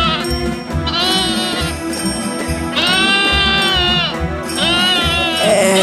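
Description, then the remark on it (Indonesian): A loose male goat bleats loudly at a market, letting out several long, wavering cries one after another over a steady low rumble of background noise, while several people try to catch it. “Ada seekor kambing jantan yang terlepas. Kambing itu nampak liar.”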